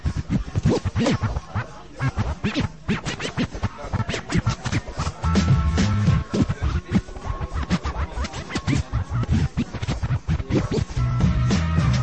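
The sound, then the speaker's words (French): Rapid DJ turntable scratching, with choppy back-and-forth bursts of warped sound cutting in and out over a steady, loud beat, with no voices. “Comment est-ce que je fais pour scratcher?”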